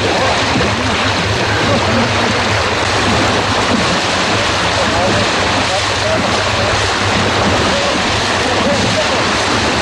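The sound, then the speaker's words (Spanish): Sea waves crash and wash along a nearby shore in a natural area of the island of Fuerteventura, in a loud, continuous roar, the surf rumbling steadily without pause, with a breezy hiss over the top. “Este sonido que están ustedes escuchando nos sitúa en una parte de la isla de Fuerteventura, en un espacio natural, en el mar, cerca del mar”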